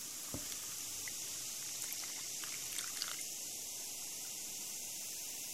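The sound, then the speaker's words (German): A brief splash of water poured onto a family-size pack of fizzy sherbet powder in a glass bowl gives way to a steady, close-up fizzing and crackling as it foams, with tiny bright pops scattered throughout and no voices; the microphone is held very close. “So, ja, dann nehmen wir einfach Wasser und gießen das drauf, halten das Mikrofon dabei ganz nah dran.”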